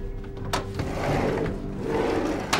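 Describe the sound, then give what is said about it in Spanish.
A back door opens as a woman flees through it: a sharp latch click, a low scraping, rumbling sweep as it swings, then another crisp click at the end. No voices. “huyó por la puerta trasera.”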